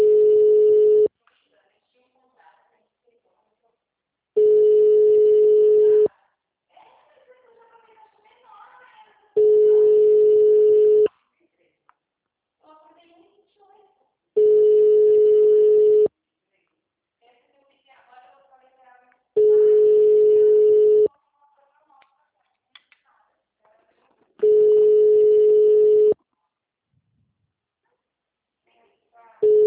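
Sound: unanswered telephone call tone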